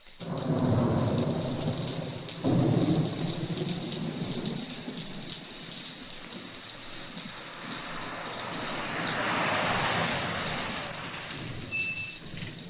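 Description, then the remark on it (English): A thunderstorm with heavy rain: steady dense rainfall hisses throughout while deep rumbles of thunder roll and swell, loudest near the start and again later, with no voices. “My car is stalled, and I'm afraid all alone out here in the storm. Yeah, it is raining pretty hard.”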